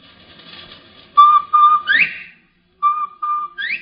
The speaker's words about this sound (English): You hear that, Will? That's old Bob White. He thinks there's another bird up here.